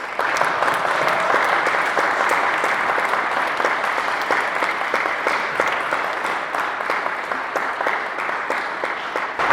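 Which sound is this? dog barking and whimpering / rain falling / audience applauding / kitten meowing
audience applauding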